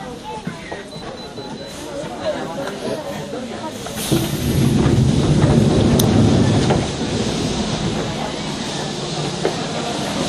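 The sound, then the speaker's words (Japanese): The doors of a special limited express train slide open at a station with a loud pneumatic hiss swelling for a few seconds, set against steady rumbling carriage noise and a faint, indistinct voice. “のドアが開きます。ご注意ください。”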